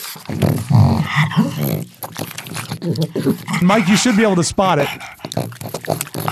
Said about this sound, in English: That's a dog. It's a pug. close yeah. mic'd pug.